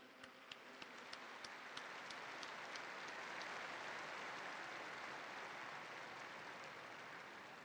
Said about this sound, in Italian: Facciamo tutti insieme un applauso al Beato Alfredo.